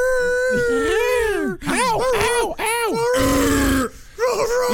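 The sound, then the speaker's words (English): Loud werewolf-style howls and groans rise and fall in long wavering cries, broken by a harsh, raspy growl, seemingly a human voice imitating the creature. “I got a new dog for you. That's not a dog.”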